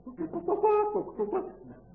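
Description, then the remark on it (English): A voice imitates a clucking mother hen in a chicken yard, as a woman at a conference in Russia once sounded, making a short run of throaty, warbling clucks with rising and falling pitch over about two seconds, moderately loud. “Some woman started sounding like a hen in the chicken yard.”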